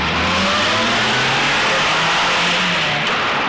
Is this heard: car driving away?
yes